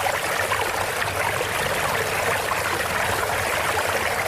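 A water feature sound effect taken from a 10-hour YouTube video: steady trickling water, a continuous bright splashing and babbling that stays even in loudness throughout, with no voices over it.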